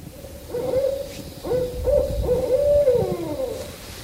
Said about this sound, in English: Katie Adams put her digital owl caller to work in hopes of a response.